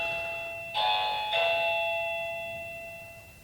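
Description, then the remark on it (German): A doorbell chimes with two clear ding-dong tones, the second following quickly after the first, then rings out and slowly fades. Distinct, with no voices present. “Es klingelt.”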